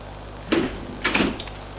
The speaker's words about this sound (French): La porte s'ouvre, c'est le vieux.